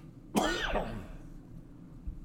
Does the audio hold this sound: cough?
yes